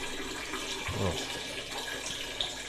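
A large man urinating in a strong, steady stream, a continuous splashing of liquid into water that holds its force without breaking for the whole stretch.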